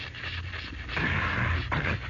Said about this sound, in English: Now wait until I spray my throat. I've talked a good deal. It's become dry.